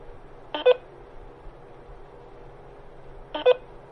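Two short telephone dialing tones, each a quick pair of electronic beeps, sound about three seconds apart over a low, steady background hum. No one speaks.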